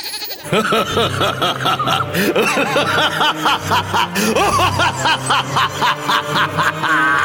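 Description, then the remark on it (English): A loud creature cry laced with a billy goat's bleat, warbling and stuttering in quick rhythmic pulses for several seconds without pause, almost like a snickering laugh. “He's also got a dash of billy goat, which I cannot explain for the life of me.”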